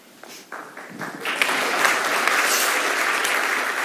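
An audience at a church service breaks into applause, starting with a few scattered claps that quickly swell into steady, dense clapping that holds at a full, even level.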